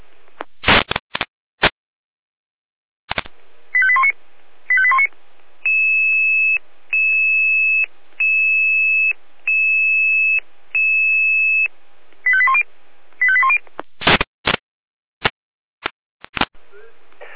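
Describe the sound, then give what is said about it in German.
Emergency services alerting tones calling out the Eisenberg units to a tree on the right lane of the A9 towards Munich: sharp clicks, a warbling tone burst, five steady high beeps in an even rhythm, another warble and more clicks. Loud and electronic, no voices. “Alarmierung.”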